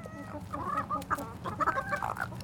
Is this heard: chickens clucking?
yes